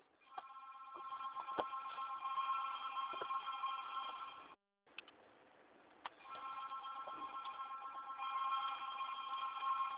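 An office telephone rings with a steady, buzzing electronic trill, sounding in two long bursts separated by a short pause, with no one speaking.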